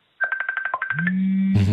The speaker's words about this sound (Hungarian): Csörög a telefonja? Nem, kinyomtam már. Aha. Valaki olyan... Németország, egy volt tanítványom hívott Németországba.